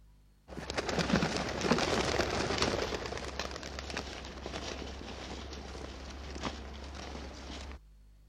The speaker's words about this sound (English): Yeah, the bird is on the wing. There are lots of birds in the archives of Derek Taylor's suitcase.